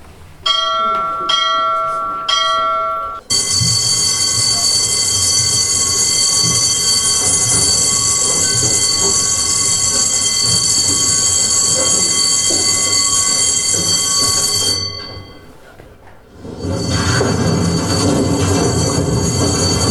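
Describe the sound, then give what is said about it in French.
A few quick bell rings, the call signal for the winding-engine operator, open; then a loud, sustained metallic screech and rumble of a miners' cage descending a mine shaft, with shrill high tones grinding on as the cage passes each gallery level, briefly dropping away near the end before resuming. “je vais vous passer une petite bande-son pour que vous imaginiez ce qu'entendaient eux, les mineurs, quand ils prenaient leur cage”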